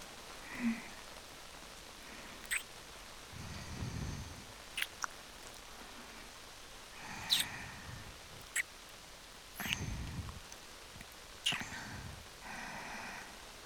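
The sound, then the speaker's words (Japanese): Steady rain hisses softly throughout, with scattered sharp drips and taps and a few dull, muffled thumps underneath; no one speaks. “私の気持ちなんてこの制服と同じ。雨で透けて全部見えてるのに。”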